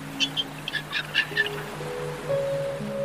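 A dolphin chatters in a quick run of bright clicks and squeaky chirps, fairly loud, as it leaps out of the water, then gives way to steady humming tones with no voices.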